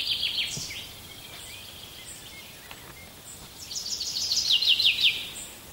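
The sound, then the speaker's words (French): Birds chirping outdoors in quick, high-pitched bursts, with a busier, louder run of rapid twittering near the end and scattered faint calls in between. No one speaks. “Que disent les oiseaux maintenant?”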